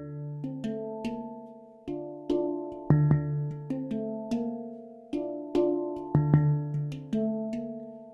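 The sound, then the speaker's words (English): A hang drum is played alone, each struck note ringing out with a warm, bell-like tone and slow fade, notes overlapping in a gentle, unhurried melodic pattern. “I would describe the sound of the hung as a cross between the Jamaican steel drum, the African kalimba, maybe the harp, and a little bit like water over bells or maybe wind chimes all put together.”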